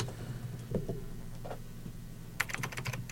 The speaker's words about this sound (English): It's a lot of typing there.